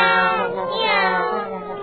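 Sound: cat meowing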